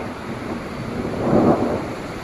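A loud thunderclap swells into a sharp, metallic-sounding crack and rumble, rising to a peak midway before settling back into a steady storm roar, during a rainstorm.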